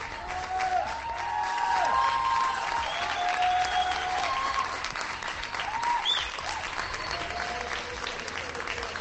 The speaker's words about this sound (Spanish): Gritos de bravo y hasta un petardo, me ha parecido oír de fondo.